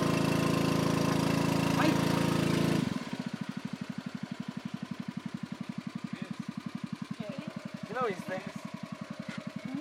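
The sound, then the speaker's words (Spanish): A motorboat engine roars loudly for a few seconds as the boat turns around in the dark to head back, then drops to a steady, rapid putt-putt idle that chugs on, with faint voices briefly heard over it. “Con todo perdido, damos media vuelta en la lancha y empezamos nuestro regreso.”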